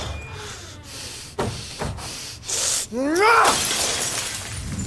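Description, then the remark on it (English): A glass fishbowl smashes loudly: several sharp cracks and thuds, then a bright crash with a rising squeal and a burst of scattering, hissing debris. “They said you smashed the fishbowl.”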